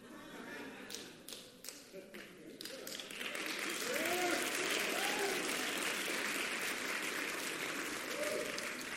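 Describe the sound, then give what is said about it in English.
A few scattered claps swell after a few seconds into steady, sustained applause from an audience, with faint voices murmuring underneath. “The applause kind of died down.”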